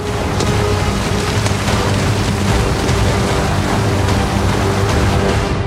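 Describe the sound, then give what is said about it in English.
Heavy rain pours down steadily, a dense, loud wash of hiss and patter with faint low rumbles beneath, continuous throughout with no voices. “waits in the pouring rain.”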